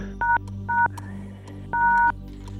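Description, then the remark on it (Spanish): Three electronic telephone keypad tones: two short beeps in quick succession, then a longer one after a pause, clear over a steady low background hum. “A ver, ese teléfono.”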